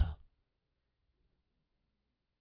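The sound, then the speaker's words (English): A voice imitates a dog's exasperated sigh with one short, breathy "pfft" puff of air, fairly loud, followed by silence. “I got a dog that'll give you an exasperated sigh. He's like, pfft.”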